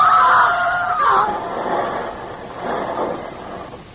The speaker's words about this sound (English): The car goes hurtling over the edge, crashing through the shrubbery and small trees, the motor roaring and screaming in the night.